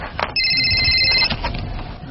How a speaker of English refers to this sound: Oh, my phone's going off. Hold on.